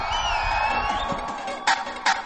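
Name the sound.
crowd screaming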